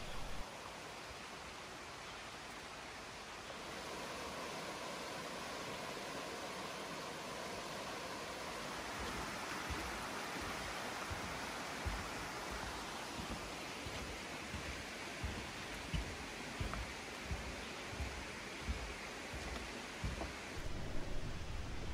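Silver Thread Falls roars steadily throughout, a dense, constant wash of rushing water that stays loud from start to finish, with no voices and a slightly rougher, churning texture toward the end.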